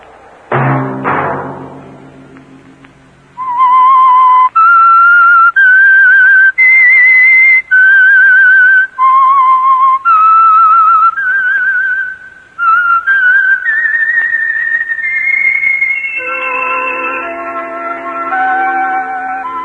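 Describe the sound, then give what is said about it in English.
A short low thump, then a loud whistled melody of clear sustained notes stepping up and down in a slow tune, joined by a fuller chord of tones near the end: the whistled theme of the Signal Oil radio program The Whistler. “That whistle be your signal for the Signal Oil program, The Whistler, each Sunday night at this same time.”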